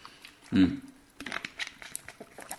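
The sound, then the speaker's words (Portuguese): Someone drinks water: a short throaty gulp-like sound, then a run of soft crinkling and clicking as a plastic bottle is handled, moderately quiet throughout. “Vou tomar água.”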